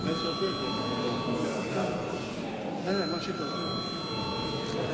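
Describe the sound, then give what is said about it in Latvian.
A parliament voting bell rings steadily for the whole stretch, called before a vote on confirming a Riga Regional Court judge, a continuous metallic electric ring with bright high overtones, while a low murmur of voices carries on underneath. “Lūdzu zvanu.”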